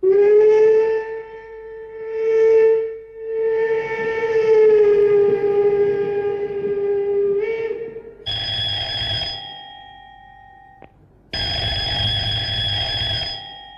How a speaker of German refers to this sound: Eine Lokomotive, die nicht nur startklar war, sondern führerlos über die Schienen brauste.